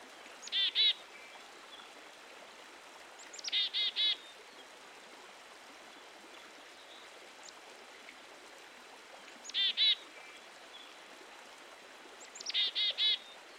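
A small songbird repeats a short, bright call in four spaced bursts, each a quick cluster of two or three high notes, heard over a steady wash of running water.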